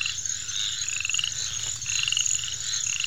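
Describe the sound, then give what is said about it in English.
A dense chorus of frogs croaking and trilling at night in a swamp, with steady high-pitched calls layered over a low, pulsing drone, continuous and fairly loud throughout with no voices. “This is my swamp. This is the panther's swamp.”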